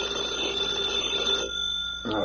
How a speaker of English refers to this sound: At 3 o'clock that morning, FBI Special Agent Taylor was asleep at home when the phone beside his pillow suddenly went off.